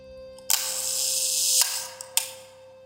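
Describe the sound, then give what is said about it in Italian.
A camera shutter, activated by the photographer Basilico while photographing the city, releases with a sharp click, a bright hiss runs for about a second, then a closing snap and a couple of small ticks follow over a faint steady hum. “Poi il guru, il grande stregone barbuto, prende fiato e attiva l'otturatore.”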